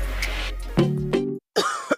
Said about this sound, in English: You okay? Sorry, I can't sleep with this cough.